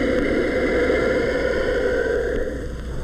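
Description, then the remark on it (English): A giant tortoise at the San Diego Zoo hisses in one long, steady, breathy rush of air lasting about three seconds, easing off slightly toward the end, with no voices present. “More in keeping with other reptiles at the San Diego Zoo, the giant tortoise also hisses.”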